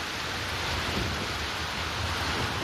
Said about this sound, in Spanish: Atención también al viento, porque va a soplar con rachas en algunos puntos muy fuertes, acompañado por granizo y, sobre todo, como la que descargaba en las últimas horas en Olmos, en la localidad próxima a Peñafiel, en Valladolid.